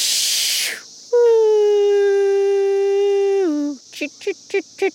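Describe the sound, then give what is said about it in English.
In a field outside the city, a person imitates the calls of the three cicada species most common there in turn: first a harsh, hissing buzz, then a long, steady, high voiced whine that drops in pitch at the end, then four short, rhythmic chirping pulses. “gives me her best impersonation of the three species most common around here.”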